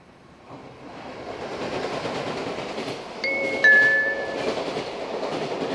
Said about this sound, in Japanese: 2番線に下り列車が参ります。黄色い線まで下がってお待ちください。